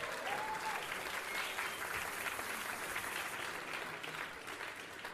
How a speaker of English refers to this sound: So, big round of applause